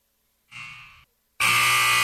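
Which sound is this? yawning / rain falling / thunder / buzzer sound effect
buzzer sound effect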